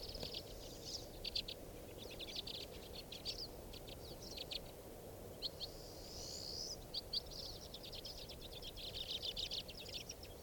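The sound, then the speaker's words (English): White-winged crossbill calls chip and trill repeatedly through the whole stretch, fairly steady, over a constant low rumble of background noise with no one speaking. “There's a white wing.”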